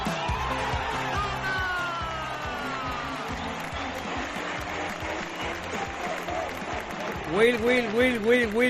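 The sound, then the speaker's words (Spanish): A basketball crowd at the Carpena arena roars and chants together, a dense wall of voices with cheering, building into loud rhythmic, repeated unison shouts of "Will" for Will Thomas near the end. “Will, es lo que gritaba el público del Carpena.”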